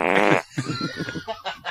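A loud, buzzy fart bursts out for under half a second, then gives way to a string of short, rough vocal sounds like grunts or stifled laughter.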